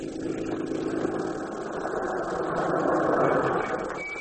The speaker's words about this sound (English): Looks like a police car.